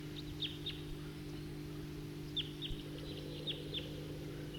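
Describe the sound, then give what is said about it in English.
A male bird perched at the top of a tall tree gives a series of short, high, down-slurred chip calls, two calls first, then a quick run of about five, over a steady low mechanical hum. “I just played that back, and while I did that, a number of type 2 birds flew over and went to the southeast, and meanwhile the bird I just recorded is still here.”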